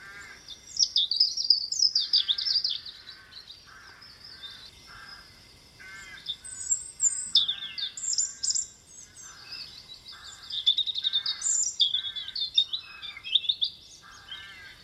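A songbird sings bright, warbling phrases almost continuously, with short pauses, over a steady series of lower, harsher repeated calls. The singing is clear and fairly close, with no talking.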